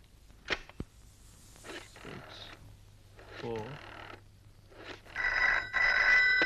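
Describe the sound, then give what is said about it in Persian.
A telephone rings near the end with a steady, bright trilling tone as a call is placed to reach a doctor, preceded by a few soft knocks, rustles and a brief murmured voice. “این هم کارتشون، شما میتونین تلفنی ازشون بپرسین.”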